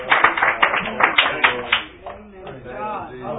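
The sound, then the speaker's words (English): An audience claps hands in a quick, busy burst of applause for almost two seconds, then the clapping fades as voices and talking take over. “Give them a hand clap as they come tonight to dismiss us.”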